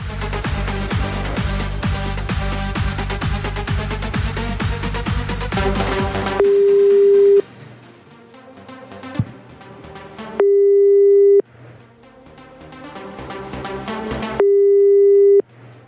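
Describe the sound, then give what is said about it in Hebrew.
A telephone line rings out while a call to a man is placed live on air: three long, steady tones spaced a few seconds apart, following a dense, noisy stretch with faint music between the rings. “יש לו מספר טלפון, בוא נפתיע אותו בשידור חי.”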